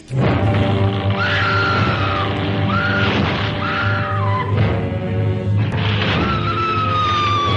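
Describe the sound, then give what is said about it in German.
A woman screams repeatedly in long, shrill, wavering cries over a dense, loud background of orchestral-sounding noise: Faye Ray's scream in the legendary scene from the old film King Kong. “So wie Faye Ray in King Kong konnte keine schreien damals.”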